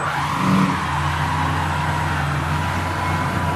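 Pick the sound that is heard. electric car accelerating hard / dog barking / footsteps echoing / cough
electric car accelerating hard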